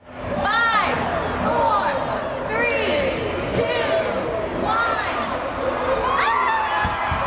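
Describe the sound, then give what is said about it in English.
A large outdoor crowd at the annual Plaza holiday lighting ceremony in Kansas City, in sixty-degree weather, roars and cheers continuously, with many overlapping voices, shouts and excited whoops rising above a dense wash of chatter. “Sixty-degree weather brought out an even larger crowd than usual for the annual Plaza lighting ceremony”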